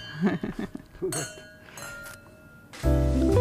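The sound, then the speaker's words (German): A few bright wine-glass clinks ring out in a toast, their tones lingering and overlapping, after brief murmured voices; music starts loudly right after the toast. “Danke vielmals. Prost. Danke. Zum Wohl.”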